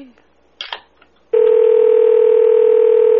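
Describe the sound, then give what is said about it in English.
While calling Coca-Cola in Hawaii from Kapolei, Hawaii, after a brief clatter and faint background sound, a loud, steady telephone tone switches on abruptly and holds unbroken to the end, clear like a line tone from a handset. “we gotta call that place”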